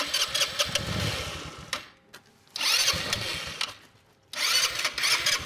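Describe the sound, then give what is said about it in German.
A small 125cc automatic scooter engine is cranked to start in three separate bursts, each a few seconds long with brief quiet pauses between, loud with no talking. “Mi Maschine ist jo eher wat lütt. Ich habe 124er Roller, Automatik. Aber wenn dir denn endlich Ansprung ist, brauchst du bloß noch Gas zu geben.”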